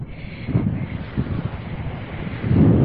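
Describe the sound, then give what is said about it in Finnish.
Sea water laps and washes softly at a sandy shore at the foot of a sand dune, with a few gentle surges, partly masked by steady, rumbling wind gusts buffeting the microphone. No one speaks. “Sitä on aika paljon ja siinä jo merikin liplattaa ja mä vähän kokeilen, että kuinka kylmää se on.”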